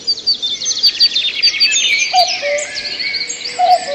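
Several birds chirp and trill busily outdoors in a garden, with rapid high twittering overlapping and shorter calls dotted through, steady, no voices present.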